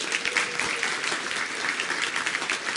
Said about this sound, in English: Thank you so much for your support. And none of this happens without you. Okay, so give yourselves a big hand clap.